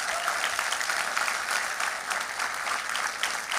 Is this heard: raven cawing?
no